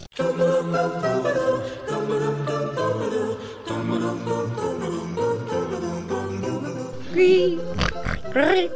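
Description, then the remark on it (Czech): An old pig, about 20 years old, grunts and oinks almost nonstop, loud, in a dense rumbling stream of snorts that breaks into a couple of sharp, rising squeals near the end. “Ale do čeho mi tak staré prase narvem?”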